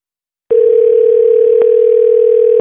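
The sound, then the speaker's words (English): One steady, mid-pitched electronic ring tone from an outgoing phone call to a local production assistant in Short Creek, sounding alone for about two seconds before cutting off, with a faint click partway through. “So we are going to call up our local Short Creek production assistant.”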